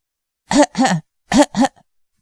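Four harsh, voiced coughs come in two quick pairs separated by a short pause, loud, like a person acting out the violent coughing fit of the character Yan Fu. No other sounds accompany them.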